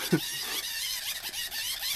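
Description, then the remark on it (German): A hand-crank charger being wound by hand to recharge the device, giving off a continuous shrill, wavering squeal that rises and falls with the cranking, fairly loud, with a faint murmur of a voice early on. “Wie lange muss man da eigentlich kurbeln?”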